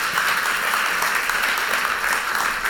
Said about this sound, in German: Einen tosenden Applaus.